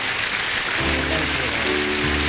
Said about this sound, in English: Seal what God has taught us, would you? Just with a clap offering.